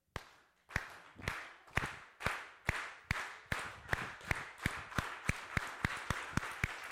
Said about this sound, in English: Listen. Instead of shaking hands, we're going to clap together. And I'm going to start us.